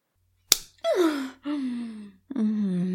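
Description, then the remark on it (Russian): A single sharp, loud slap across the face rings out, followed by three drawn-out gasping moans from a voice, each sliding downward in pitch. “Как же сладко мне отвесили пощечину.”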